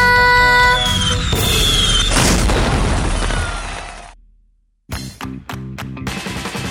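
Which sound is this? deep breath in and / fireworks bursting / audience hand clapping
fireworks bursting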